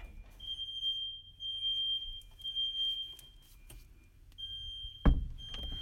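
A smoke alarm right outside a bedroom door sounds a steady, piercing high-pitched tone that runs almost continuously, briefly breaking off near the end before resuming, with a dull thump and low rumbling noise underneath.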